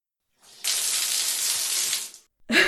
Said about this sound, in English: Just turn on the shower and you'll see what I was talking about.